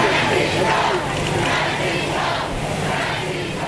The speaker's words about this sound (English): The Holy Father was greeted by cheering, chanting crowds and the president when he arrived Tuesday after 3 days in Cuba, where he was hailed as a hero for helping to end the five-decade-long diplomatic chill between Havana and Washington.